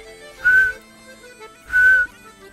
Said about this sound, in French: on va parler de crapauds chanteurs, mais aussi accoucheurs